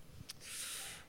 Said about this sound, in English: Bless you, audience member who sneezed.